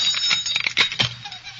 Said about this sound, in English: There was an hour yet before the ceremony, and suddenly there was a violent ring at the gate bell. In the name of all that's holy, stop jangling that bell. I'm coming.